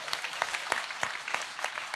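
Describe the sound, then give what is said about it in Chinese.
Warm applause from a crowd, a steady wash of many hands clapping with a few sharper claps standing out, fairly soft, with no voices. “有多一下咯，来给热烈的掌声哦。”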